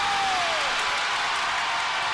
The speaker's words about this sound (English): Listen to this crowd. This is unbelievable.